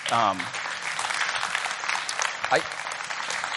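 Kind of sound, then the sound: crowd, audience clapping in praise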